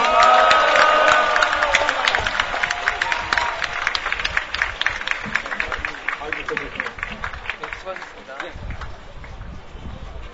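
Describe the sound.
A crowd at a Korean Confederation of Trade Unions (KCTU) rally applauds after a speech in a show of international solidarity, a steady, dense patter of many hands clapping, loud at first and gradually thinning and fading over about ten seconds, with a brief murmur of voices at the start.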